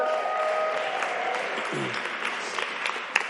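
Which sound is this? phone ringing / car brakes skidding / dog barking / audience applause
audience applause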